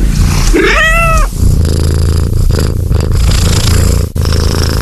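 A cat gives a short, rising-and-falling meow, then settles into a loud, steady, low rumbling purr that pulses evenly for several seconds, with a brief dip near the end.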